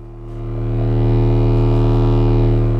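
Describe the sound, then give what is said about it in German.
A loud, steady electronic drone hum made with old analog equipment such as studio mixing consoles, electronic organs, tape machines and equalizers, with a deep low tone and stacked buzzing overtones, swelling up over the first second and then holding constant with a faint hiss on top. “Diese verwende ich, um mein Spektrum aus Geräuschen, Drones, Brummen und Rauschen zu erzeugen.”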